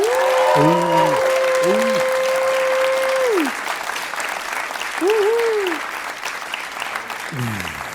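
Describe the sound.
Sustained crowd applause fills the whole clip, a dense wash of clapping that stays loud throughout, with some whoops and cheering voices rising above it in the first few seconds.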